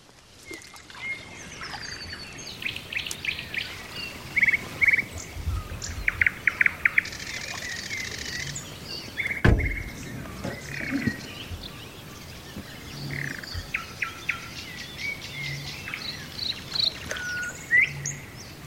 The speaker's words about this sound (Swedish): Näktergalen var ju väldigt, väldigt fin i de här videsnåren. Ja, flera näktergalar.